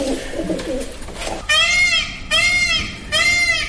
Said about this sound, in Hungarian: Páva. Így van.